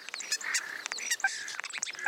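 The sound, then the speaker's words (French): Birds singing in a busy dawn chorus in a town during lockdown with less noise pollution, several high chirps and trills overlapping in quick bursts, fairly quiet, with no voices. “Moins de pollution sonore dans les communes et plus de chants d'oiseaux.”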